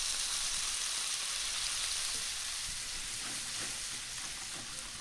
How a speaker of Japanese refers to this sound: そこにバターと白だしを加えていきます。ここでフライパンにこびりついた鶏の旨味をこそげ取るようにして全体に絡めていってください。